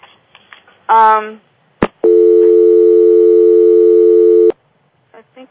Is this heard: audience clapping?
no